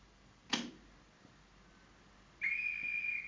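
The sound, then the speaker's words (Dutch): A train conductor's whistle gives one steady, shrill blast lasting about a second as the train leaves, preceded by a single sharp click. It sounds fairly loud, with no voices. “Duduk. Duduk. Dus fluit. Fluit. Ja. Fluit.”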